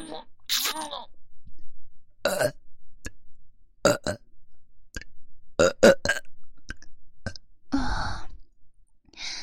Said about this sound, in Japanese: 連続ゲップが出ちゃいました。